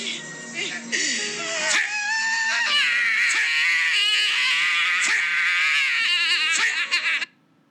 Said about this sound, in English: Yeah, she's screaming right now.